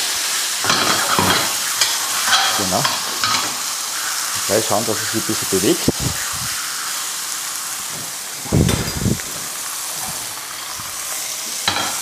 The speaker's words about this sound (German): So, unsere Pfanne ist heiß. Das ist jetzt wichtig, dass unsere Pfanne wirklich schön heiß ist beim Rostbraten, wenn man ihn einlegt. Mit der Senfseite nach unten in die heiße Pfanne rein.